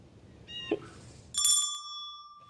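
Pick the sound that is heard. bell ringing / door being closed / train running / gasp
bell ringing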